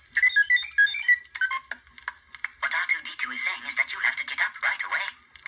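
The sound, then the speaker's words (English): A grating C-3PO alarm clock, bolted under a bed to fragment sleep in a sleep deprivation study, sounds: a run of shrill, rapid beeping tones, then a harsh, buzzy burst of garbled robotic chatter that keeps blaring until the end. “And the way we did that was we had these little C-3PO alarms that made this unbelievably grating sound.”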